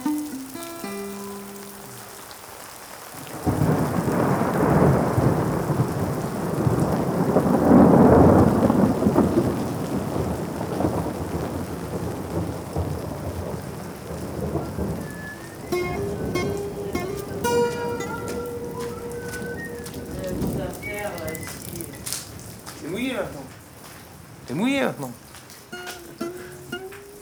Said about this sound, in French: Non, j'aime bien le bruit de la pluie.